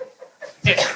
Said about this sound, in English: Bless you. Bless you.